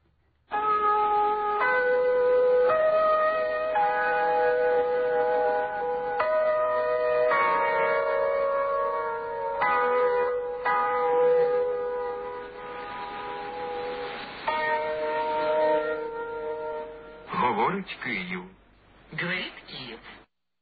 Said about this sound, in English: I want to play from 1978, the sound of the interval signal from Ukrainian radio.